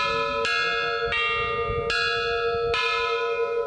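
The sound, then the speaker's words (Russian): A church bell is struck with a hammer, used instead of ropes for loudness, four times at a slow, even pace, each sharp clang blooming into a rich, sustained ringing tone that overlaps the next, loud, with no voices. “Нужно, чтобы вот этот самый главный колокол больше всех звенел.”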